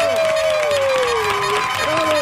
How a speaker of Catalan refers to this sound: Vinga, va, un fort aplaudiment a aquesta nova escola pel Gerard Jubany.